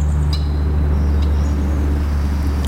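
A few faint, brief bird trills, chatter, check calls and alarm whistles sound at Tuktuxin Marsh on Saturna Island, British Columbia, nearly buried under a loud, steady low drone of distant airplanes.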